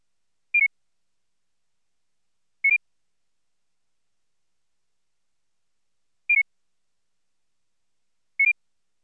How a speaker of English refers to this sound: First, you will hear a two-tone standard, followed by a two-tone target. This pattern repeats twice. Judge whether the pair of pitches in the target change in the same direction, up or down, as those in the standard.